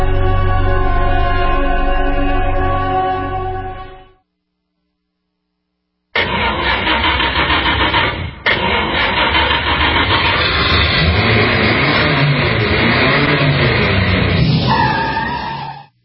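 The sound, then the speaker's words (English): A loud, home-built hot rod engine rumbles steadily, falls silent for a couple of seconds, then roars back to life and revs repeatedly, its pitch climbing and dropping. No voices are heard. “Mainly Jesus and my hot rod.”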